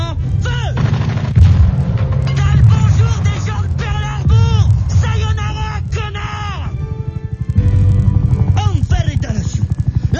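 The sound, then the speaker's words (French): Heavy tank gun shots and explosions boom out in sharp bursts over a constant low engine rumble as the Elephant tank's shot reduces the Shinozuka to dust, with voices talking in French through the din. “Shinozuka vient d'être complètement réduite en poussière par le tir de l'éléphant.”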